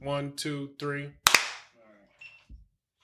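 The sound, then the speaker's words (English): A single sharp hand clap, made to sync audio, cracks out loudly after a few seconds of voices talking, then a short ringing decay trails off as quieter speech resumes. “Clapping for audio.”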